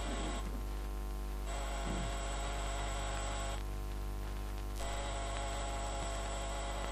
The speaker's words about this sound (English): I got Dunn's address, waited till after the funeral, then I went to his apartment in Rose Bay, armed with skeleton keys. But just for the heck of it, I pressed the door buzzer.